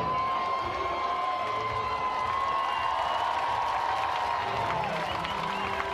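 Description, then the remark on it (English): A large ballpark crowd applauds steadily for KC the Bat Dog as she retrieves the bats during the inning, a broad wash of clapping with scattered cheers and whoops rising from the stands, sustained and fairly loud throughout, with no one speaking. “And for the folks listening, they are not clapping for Connor, as good of a season he's had. Nope, that is KC the Bat Dog down there retrieving the bats here in the inning.”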